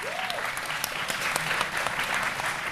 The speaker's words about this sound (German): Es gab Dönerwaffeln. Applaus für Dönerwaffeln.